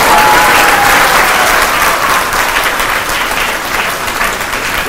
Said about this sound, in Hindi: ताली बजानी अच्छी तरह बजाओ, टिप टिप क्या कर रहे हो सारे बजाओ।